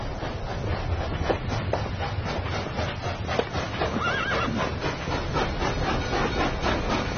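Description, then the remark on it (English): A horse whinnies over a steady, rhythmic clip-clop of hooves, loud, set against a dense rumbling backdrop that runs unbroken for the whole stretch, with no voices. “There's a train, there's a horse, there's a gun.”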